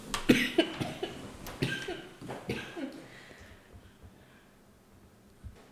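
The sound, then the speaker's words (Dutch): A harsh coughing fit: a rapid run of barking coughs that gradually weakens and trails off into quiet, followed by one last isolated cough near the end. “Ja, het is de periode van de hoestjes, hè.”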